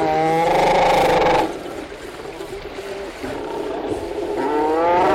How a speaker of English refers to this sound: Sounds of a seal rookery on St. Paul Island. The recording's part of an audio archive from Cornell University.